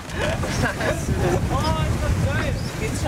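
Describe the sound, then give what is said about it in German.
A sailboat with its crew crossing a broad passage of open sea in strong wind, gusts whipping into the sails: steady loud gusts roar and buffet the microphone over rushing water, with faint voices briefly audible beneath the noise. “Heute muss die Crew trotz beachtlichen Windes eine breite Meerpassage kreuzen.”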